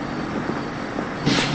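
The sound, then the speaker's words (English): A city bus's engine rumbles steadily, then surges louder with a brief hiss as it pulls away from a bus stop, with no voices. “The bus leaves without her.”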